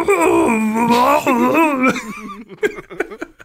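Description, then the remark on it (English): A person imitates a dog with a long, wavering, whiny vocal sound lasting about two seconds, close and fairly loud, followed by a few short breathy bursts of laughter. “I love this podcast should just be us trying to recreate dog noises.”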